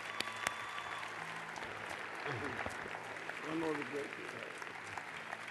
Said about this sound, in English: we all give him this round of applause.